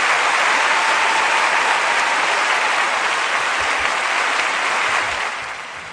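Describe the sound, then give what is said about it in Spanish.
A crowd claps continuously in dense, steady applause at a fairly loud level, with no talking, before it begins to fade at the very end. “Un aplauso por el otro.”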